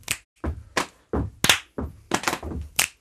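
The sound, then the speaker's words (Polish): A simple funky rhythm of hand claps and body slaps, about nine sharp percussive hits alternating bright claps with duller thumping slaps on the body, played alone without voices. “Bardzo prosty rytm funk, gdzie baza, pierwsza osoba tupie coś takiego.”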